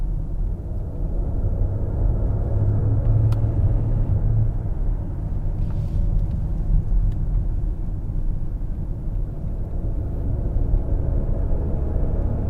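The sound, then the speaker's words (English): A low, ominous engine note hums steadily inside a Rolls-Royce Spectre, a very quiet, subtle, deep continuous rumble that stays even throughout, with no voices over it. “Okay, this is an attempt to get a recording of the ominous engine note within the Rolls-Royce Spectre for my friends at The Verge.”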